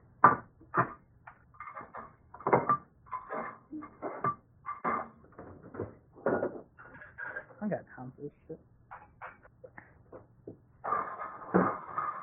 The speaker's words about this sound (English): I'm gonna do the dishes.